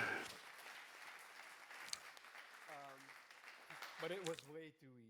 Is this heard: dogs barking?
no